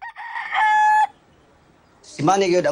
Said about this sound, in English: In a yard, a chicken pecks at feed in a bowl, two dogs yap, a cockerel.